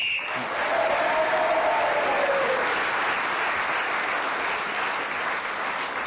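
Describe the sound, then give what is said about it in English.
A studio audience cheers and applauds for Clement Freud, a dense, steady wash of clapping with a few whoops rising over it. The sound stays loud and even throughout. “This week they are cheering for Clement Freud because he has brought a group with him.”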